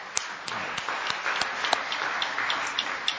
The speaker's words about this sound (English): We're so grateful for the members of our worship ministry team who came yesterday morning to decorate our church sanctuary. It looks lovely. Let's give them a little round of applause for being here early this morning.